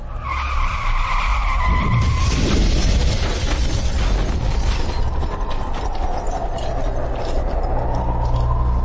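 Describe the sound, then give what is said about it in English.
A car whose brakes have been cut and airbags disabled roars loudly as it is accelerated to high speed while its tires screech and skid, a shrill squeal in the first seconds giving way to continuous harsh engine and road noise. “Cutting brakes. Disabling airbags. Accelerating car to a high speed.”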